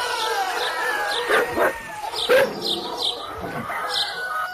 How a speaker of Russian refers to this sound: Собаки залаяли громче и дружнее.